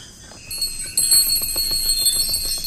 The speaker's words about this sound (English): A bell? Something is hidden there.